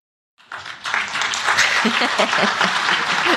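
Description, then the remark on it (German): After a brief silence, an audience breaks into applause, a dense, steady wash of many hands clapping that holds at an even level for about three seconds, with faint voices mixed in; the audience claps to answer a question about who likes going to the market. “Ich will einmal gern in den Raum fragen, mein Klatschbarometer einmal anwerfen. Wer von euch geht denn selber gerne mal auf den Markt?”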